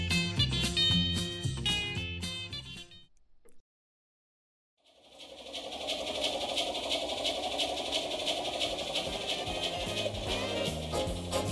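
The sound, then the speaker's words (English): After a brief burst of music and a short pause, a model train runs steadily, its motor whirring and buzzing under a continuous rattling clatter of wheels on track. “There's the click and clack of a model train.”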